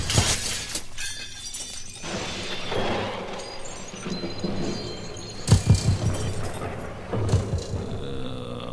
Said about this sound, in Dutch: Dan tuimelden ze door het venster naar binnen, zodat de ruimte in duizend stukken sloeg.